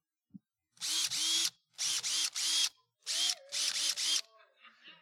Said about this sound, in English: This is a power drill, Makita brand. I don't know if that's a good brand or not, but I like it. This power drill is not only a power drill, it's also a hammer drill.